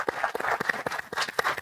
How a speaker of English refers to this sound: In the meantime, best of luck and round of applause, please. Thank you.